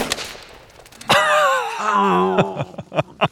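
A single sharp rifle shot, fired through a scope at a set of bottle targets, cracks out, immediately followed by a drawn-out wavering cry or groan, with a few short knocks and clicks near the end.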